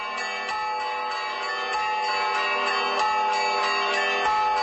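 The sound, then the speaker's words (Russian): Bells of the church of the Holy Blessed Prince Alexander Nevsky in Pskov, Russia, ring in a dense, continuous peal, several bells struck in quick overlapping succession with bright metallic tones sustaining throughout, loud with no voices. “Так звонят колокола псковского храма святого благоверного князя Александра Невского.”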